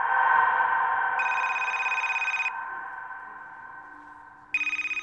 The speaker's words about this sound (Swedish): Mars 2005. Det kommer ett telefonsamtal till polisstationen i Palm Beach, Florida. Det är en kvinna som ringer.